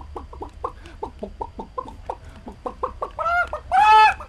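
Chickens in a barnyard cluck in a quick, steady run of short notes, building into louder, drawn-out squawks near the end. No one speaks.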